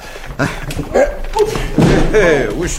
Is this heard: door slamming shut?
yes